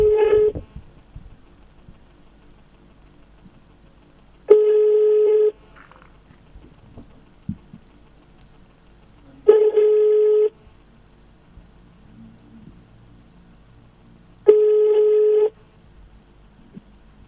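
Telephone ringback tone heard through the line on a call to the tow truck service of the Municipality of Asunción: a steady electronic burp about a second long, repeating four times at five-second intervals with faint background hiss between, and no one picks up.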